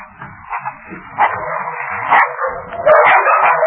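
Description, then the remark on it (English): Several dogs bark and snarl aggressively as they renew their attack on a man, a frantic, overlapping burst, loud, with harsh yelps breaking through a constant growling din. “Before they arrived, the dogs renewed their attack on Drury.”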